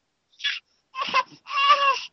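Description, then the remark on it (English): A seven-week-old baby, asked about the video game Pikmin 3, cries in three short, high-pitched wailing bursts, the last one the longest and loudest, with no one talking over it. “Babies don't like Pikmin 3.”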